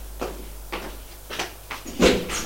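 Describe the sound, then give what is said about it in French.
A door being opened: a run of short wooden clunks and rattles at uneven intervals, the loudest near the end, with no voices. “Et il va ouvrir la porte.”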